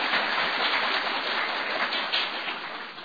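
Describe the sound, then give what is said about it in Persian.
An audience at a session applauds to thank its organiser, in a dense, steady wash of clapping that holds at an even loudness for about three seconds, with no voices over it. “ولی همه زحمتش با ایشون، یه تشویقی بکنه پرده.”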